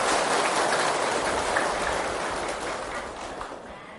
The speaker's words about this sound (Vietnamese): Hãy dành một tràng vỗ tay để cam kết làm việc này.